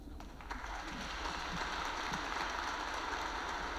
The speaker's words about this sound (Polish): Dziękuję zespołowi, który śpiewał, nas mocno wspierał. Proponuję im oklaski dać.